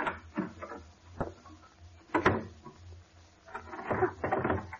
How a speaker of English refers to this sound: Why are you locking the door?